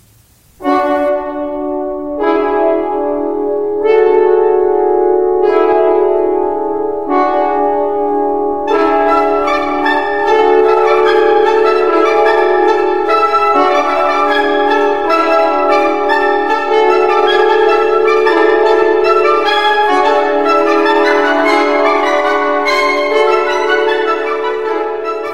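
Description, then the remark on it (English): Orchestral music from Britten's opera Peter Grimes, the second interlude "Sunday Morning" at the start of Act Two, with bright, clanging bell tones imitating church bells as the community gathers for worship, struck in a steady repeating pattern over sustained strings and winds, loud and full throughout with no voices. “We hear church bells ringing as the community gathers for worship.”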